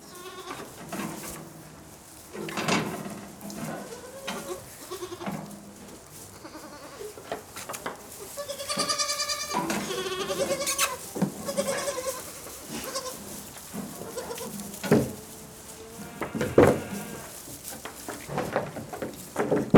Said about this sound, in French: agriculteur des Chevrettes du Terri, une exploitation de chèvres qui se trouve sur le Terri des Argales, à Riolé, entre Douai et Valenciennes.